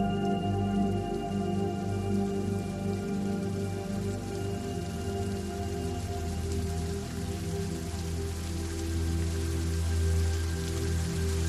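Steady, continuous rain patters evenly throughout, with a low, sustained droning hum underneath. There is no talking.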